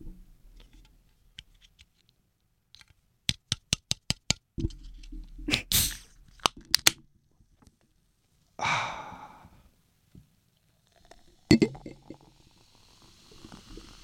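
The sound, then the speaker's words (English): Ice cold beer being poured into an ice cold glass: a series of sharp taps and clinks, a brief hissing rush of liquid and fizz, then quieter settling bubbles, with no talking. “The beautiful sounds of an ice cold beer poured into an ice cold glass.”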